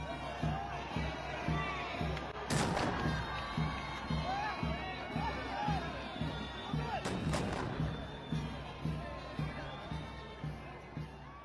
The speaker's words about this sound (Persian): شدن علم موزیک احترام نواخته می شود و توپهایی بر اسم احترام شلیک می گردد.